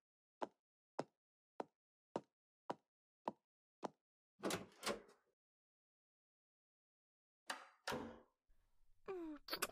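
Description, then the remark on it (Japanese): A quick run of eight evenly spaced sharp clicks, then a door clunks open with a rattling latch, followed by another thud and some soft shuffling. “ドアが開きます。”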